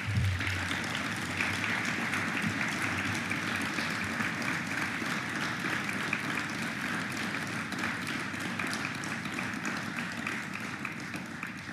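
Sustained applause from a large audience at an installation session, applauding public service workers, a dense, steady wash of many hands clapping at even loudness for the whole stretch, with no voices standing out.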